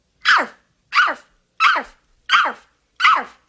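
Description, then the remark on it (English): A woman imitates a big dog barking on command: five loud, evenly spaced, clear woofs, about two-thirds of a second apart, with silence in between. “She is forced to bark like a dog, hop on one leg, all to kind of illustrate that she'll do whatever she can to make him happy.”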